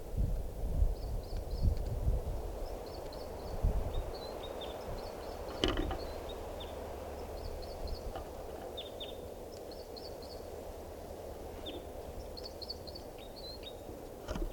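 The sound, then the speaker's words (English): A female bird calls while a male sings: short high-pitched phrases of three or four quick notes repeat every second or so, mixed with lower brief notes, over a steady low rumble. “Perched near 387, that's her calling, and him singing.”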